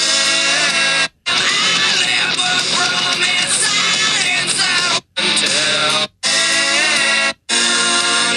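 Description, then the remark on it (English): A loud, distorted rock song with a screamed vocal plays from a phone speaker, cutting out briefly several times as if someone is skipping around to find a spot in the track. “I'm going to just pull it up on my phone.”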